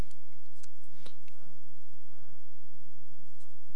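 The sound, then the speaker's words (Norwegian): A pen scratches across paper in a few short, irregular strokes as a different pen is tried out, fairly soft, over a steady low background hum with no talking. “Så hvis vi da starter, altså oppgave, nå var den pennen der dårlig, men se om vi har en annen penn som skriver litt bedre.”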